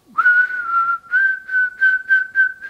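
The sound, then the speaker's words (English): A person whistles a single steady, fairly loud tone as a demonstration of whistling, holding nearly the same pitch throughout while it pulses in several short bursts with brief dips between them. “the way we're going to do this is by whistling”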